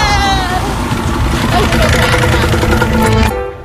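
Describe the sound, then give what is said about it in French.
A motorcycle engine runs loud with a steady, rough drone, then cuts off and drops away abruptly near the end. “Non, moi je vais sur ma moto.”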